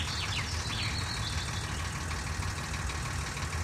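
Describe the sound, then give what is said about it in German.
A car engine idles with a steady, low, rumbling drone that stays even throughout, with a few faint high chirps in the background early on, as the car is parked in front of the bank in Green Valley and the engine is switched off. “Eine Stunde später parkte er vor der Bank in Green Valley und stellte den Motor ab.”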